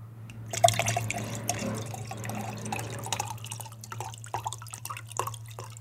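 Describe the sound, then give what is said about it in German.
Apple juice pours steadily into a container for several seconds, with splashing and dripping over a constant low hum, and no one speaking. “Eieieiei, das gießt du noch da ins Mischpult rein.”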